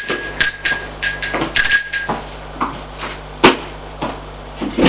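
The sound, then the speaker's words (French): A doorbell chimes with a sustained ringing tone, followed by a series of sharp clunks and knocks as a door is handled and opened. “On sonne à la porte. Il va ouvrir.”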